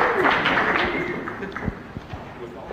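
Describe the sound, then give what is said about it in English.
An audience claps in a dense, steady patter of many hands, with a few sharper individual claps and a murmur of crowd voices and cheering underneath, fading slightly toward the end. “Quit stealing the applause.”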